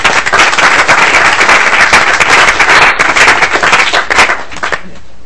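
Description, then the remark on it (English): A crowd at a committee meeting in the Capitol applauds visiting 11th and 12th grade students, dense overlapping claps holding at a strong level for about four seconds before quickly tapering off into quiet. “So thanks for your attendance, and why don't we give them a little applause.”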